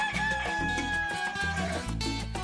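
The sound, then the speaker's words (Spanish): A rooster crows loudly and at length, its drawn-out call riding over a steady, thumping musical backing with no voices. “Ese gallo, a veces lo quiero, a veces lo odio.”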